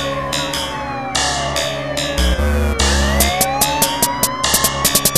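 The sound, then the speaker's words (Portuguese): A police siren wails loudly as a car passes, its pitch sweeping up and down over a low engine rumble and a steady thumping beat, with no voices. “Sujou, pivete, lá vem os cana.”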